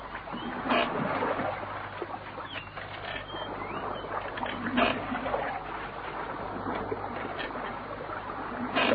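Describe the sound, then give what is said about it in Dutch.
A small boat pushes slowly through water into tall, dense reeds, with continuous rustling, swishing and light splashing, and brief louder brushes as stalks scrape past. “Nou gaan we het grote riet in. Even de boot vastzetten.”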